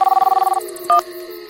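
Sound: mobile phone ringing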